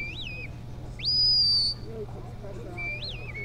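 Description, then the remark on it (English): A sharp, high-pitched whistle blown in short bursts by a sheepdog handler commanding a Border Collie working range sheep at a sheepdog trial on an open ranch pasture, on a crisp fall morning: a brief rising-falling note, then a longer, louder sustained blast, then another quick note, against a low steady outdoor rumble. “Their handlers use a series of whistled and verbal commands to tell the dogs where to go and what to do.”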